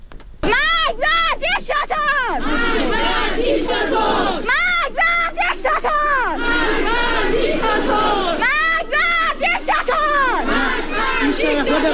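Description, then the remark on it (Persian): A large protest crowd in Iran, at Saturday demonstrations in areas including Tehran's bazaar and Mashhad, chants slogans loudly in unison, voices rising and falling in repeated rhythmic bursts of shouting that continue throughout, with scattered yells and crowd noise between phrases. “اعتراضات و تظاهرات روز و شامگاه شنبه در مناطقی از تهران از جمله بازار پایتخت و همچنین در مشهد، گرمدره، کرج، جوانروز، سنندج، سمیرون و اصفهان ادامه یافت.”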